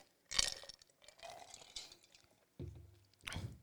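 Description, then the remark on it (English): Whiskey pours briefly into a glass with a few splashy, gurgling bursts, followed by a soft clink and a low thud as the bottle or glass is set down, without talking. “This is probably going to be the smallest pour you've ever seen on the show.”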